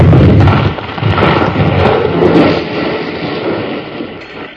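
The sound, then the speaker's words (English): A big, heavy wooden beam, rigged to fall right over a door, crashes down with a loud, deep thud, followed by several seconds of rumbling, clattering debris that slowly tapers off. No one speaks. “You sure were smart to figure on setting that big beam to fall right over the door, Colorado.”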